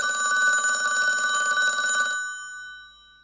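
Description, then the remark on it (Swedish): A telephone bell rings in a single continuous burst for about two seconds, bright and metallic with a rapid trill, then its tone lingers and fades out. No one speaks. “8 telefonsamtal. Lyssna på telefonsamtalen.”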